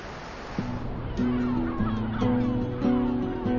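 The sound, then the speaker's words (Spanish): Yellow-legged gulls call repeatedly with harsh, nasal cries, several voices overlapping in a steady chorus over a soft wash of surf in the background. “Por el momento, las gaviotas patiamarillas se mantienen bastante bien.”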